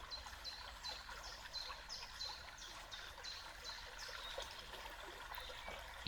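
A steady stream trickles and splashes continuously, with a rapid series of high, short bird chirps repeating over the water throughout.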